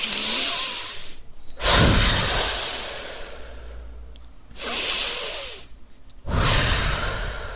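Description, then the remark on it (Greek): Slow, deep breaths repeat in a steady cycle as a relaxation exercise: a long airy inhale through the nose, filling the belly like a balloon, followed by a gusty, whooshing exhale through the mouth, twice over, with brief quiet pauses between. “Εισπνοή βαθιά από τη μύτη, φουσκώνει η κυλίτσα μας σαν μπαλόνι και φυσάμε από το στόμα.”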